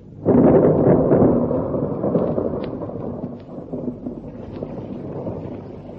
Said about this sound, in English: And then the thunder came. It's raining. Uncle George, the rains have come. It's going to pour!